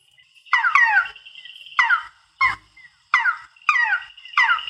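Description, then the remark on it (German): A frog calls in a series of about six short, nasal mewing bursts that sound much like a kitten's meow, fairly loud with brief pauses between them. “dass der Frosch so tut, als sei eine Katze.”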